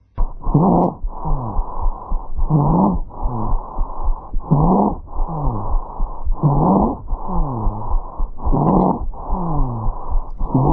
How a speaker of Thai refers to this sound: ถ้าไอแล้วมีเสียงแบบหมาเห่านะคะควรจะคิดถึงโรคครูปนะคะซึ่งจะมีอาการไอดังนี